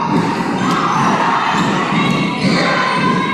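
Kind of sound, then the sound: crowd, basketball crowd cheering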